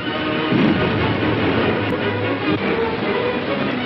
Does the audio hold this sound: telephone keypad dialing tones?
no